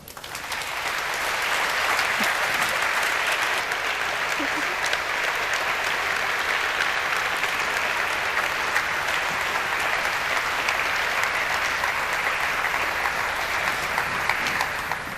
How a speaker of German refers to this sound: Dann danke ich euch für eure harte Arbeit, die das ist. Und nochmal einen Applaus bitte.